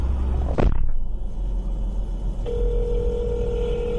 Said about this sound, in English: But you can hear in the beginning of this clip, you can hear his kidnappers fucking talking to him and then tossing him in a goddamn car.